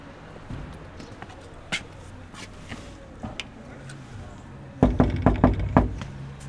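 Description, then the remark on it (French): Soft scattered thumps and shuffling movement, then a quick cluster of five sharp knocks on a wooden door near the end, as someone knocks at an ajar door and enters a home in Bohain-en-Vermandois, a small town north of Saint-Quentin. “La porte est entrouverte, alors j'entre.”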